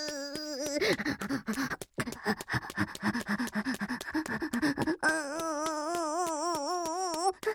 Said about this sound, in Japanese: あくびします、あくびします